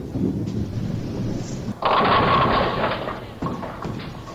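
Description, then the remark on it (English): In a bowling game, a low rolling rumble builds, then a sudden loud crash as a bowling ball knocks over 8 pins, leaving 2 standing. A bright clatter rings out and fades, followed by another softer knock. “Susan knocked over 8 pins, leaving 2 pins standing.”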